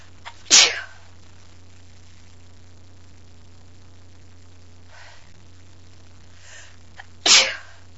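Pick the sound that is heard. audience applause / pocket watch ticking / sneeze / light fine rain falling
sneeze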